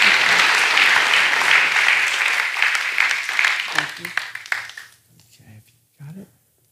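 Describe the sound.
A church audience applauds a woman after she has spoken, with dense, steady clapping that thins out and fades after about five seconds, followed by a brief spoken voice.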